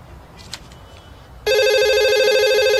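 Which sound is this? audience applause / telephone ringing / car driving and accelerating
telephone ringing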